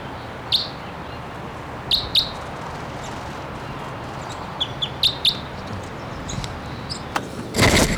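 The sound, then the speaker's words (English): A wild male crossbill, one of two males present, calls from the trees with short, sharp chip calls at irregular intervals, some in quick pairs, over a steady outdoor hiss, followed by a brief burst of broad noise at the end. “One of the birds is here screaming. The second one is free. And he's here calling the trees.”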